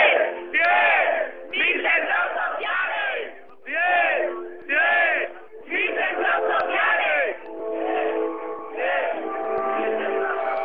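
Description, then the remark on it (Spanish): Live ambient sound from Patio Maravillas, carried over a phone connection: a large crowd shouts and chants in loud, rhythmic bursts, cheering like a football match, with music running underneath the continuous roar of voices. “Tenemos el sonido ambiente, esto parece un partido de fútbol. La música, los gritos.”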